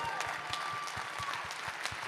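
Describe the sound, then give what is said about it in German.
Steady audience applause at a live stage event, a dense wash of many hands clapping at an even volume, with a faint regular pulse running beneath it. “Applaus.”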